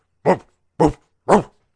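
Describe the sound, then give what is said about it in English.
A dog barks three times in a steady rhythm, each bark short and loud, with brief silences between them and no other sounds around. “It kept barking louder and louder, and my friend wasn't even coming to help me.”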